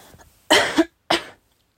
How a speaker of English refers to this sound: No, I'm not coughing because I'm nervous.